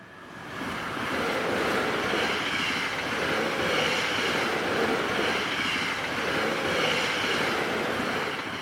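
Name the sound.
train moving on rails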